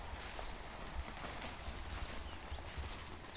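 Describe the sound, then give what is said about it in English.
Thin, high twittering calls of goldfinches flying overhead in a quick run of chirps, fairly faint against steady outdoor background noise in Monk's Wood, UK, with no one speaking. “Oh, what's flying overhead? Are they goldfinches? Yeah, it's goldfinches, and they'll be coming in for the knapweed.”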